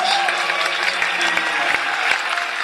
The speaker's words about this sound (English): If you've come to our shows in the past, just lightly applaud.